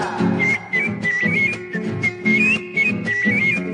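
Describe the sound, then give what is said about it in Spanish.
A person whistles a warbling melody imitating bird songs, with quick gliding notes over a steady rhythmic accompaniment of strummed instruments, the whistle clear and prominent throughout. “Los más diversos cantares el monte vienen llegando, yo los recojo en el vuelo y los repito silbando.”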